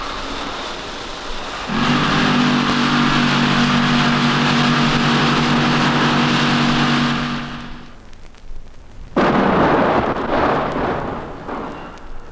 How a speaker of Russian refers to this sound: Взрыв был замечательный.